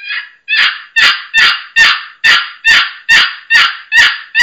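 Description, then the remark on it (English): A raspy hen turkey yelp sequence played low and slow on a box call: about ten evenly spaced, scratchy notes in a steady rhythm, loud, with no talking. “Okay, and then, like you're saying, low and slow, and that raspy hen on this box, it just, listen to this.”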